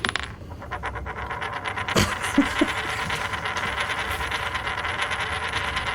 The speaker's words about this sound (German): Genau, wir werfen nochmal eine Münze. Ich zweifle das Ergebnis nämlich an.